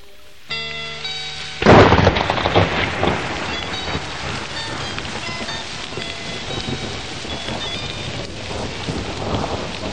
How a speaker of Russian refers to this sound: Сверкнула молния, а за ней последовал сильный раскат грома, от которого проснулась собака.